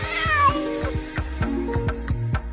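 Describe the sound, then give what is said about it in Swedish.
Two small cats, about to be taken to the veterinarian, meow repeatedly, high thin cries overlapping in quick succession, with a steady low rumbling background throughout. “Nu så ska de här två små katterna få gå till veterinären.”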